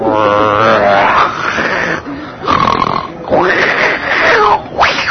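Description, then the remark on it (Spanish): A person imitates the snoring of a friend asleep on the floor, making several drawn-out, grunting snore sounds with their voice in a loud, rhythmic series with brief pauses between them. “De repente, pues no me dejaron dormir sus pequeños ronquidos.”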